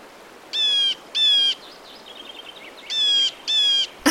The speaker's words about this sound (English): Okay, we're off to a great start, because that one is one of my favorites, the blue jay.